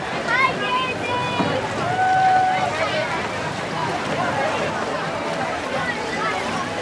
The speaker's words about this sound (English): Every available boat sprang into action. Kayakers paddled faster and harder than they'd done all day, and every lifeguard was on hand to pluck out an increasing number of kids